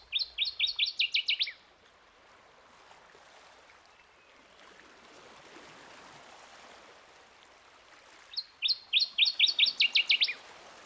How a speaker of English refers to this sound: That's the northern water thrush, and it's another member of the warbler family. It's really fun to watch when it's on the ground because it doesn't hop along like most birds. It actually walks.